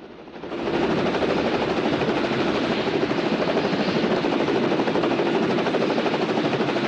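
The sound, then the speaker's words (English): A helicopter hovering by a rocky peak above a pine forest, its rotor whirring steadily in a dense, rapid chopping drone that swells in the first second and then holds loud and constant, with no voices. “The spinning rotor mechanism whirs behind the white helmeted heads of the chopper pilot scanning from side to side in the cockpit.”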